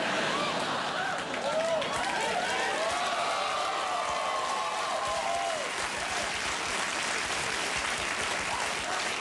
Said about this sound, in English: You're applauding the implication that I masturbate. That's, Now you're openly wooing at it.